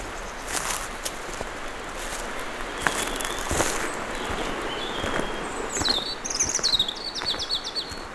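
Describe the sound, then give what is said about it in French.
Birds sing in dense woodland beside a flowing stream, over a steady rushing wash of background noise, with thin chirps scattered early and a brighter burst of quick, trilling song near the end. “Elle borde le ruisseau qui s'écoule au milieu de ces bois épais et de ces oiseaux. Siffleur.”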